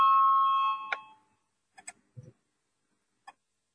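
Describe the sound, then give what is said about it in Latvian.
A parliament's electric voting bell rings before a vote on Justice Minister Jānis Bordāns's proposal no. 26, a steady, bright tone for about a second, then cuts off and fades. A few soft clicks and taps follow in the quiet, with no talking. “Lūdzu, zvanu, balsosim par 26. tieslietu ministra Jāņa Bordāna priekšlikumu.”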